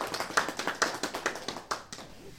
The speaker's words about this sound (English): Graduated from a very rigorous program of hospital chaplaincy training. Yes, bravo. There was much applause.